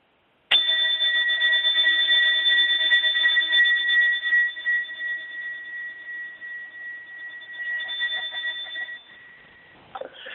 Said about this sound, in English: And to welcome you into circle, I have a candle lit beside my computer, and I'm also going to ring my bell. And I encourage you to just sit and listen quietly, and as the bell is ringing out, just kind of center yourself and take a few deep breaths.